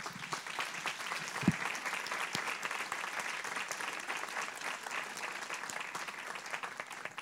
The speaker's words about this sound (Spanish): y yo pediría un aplauso para él.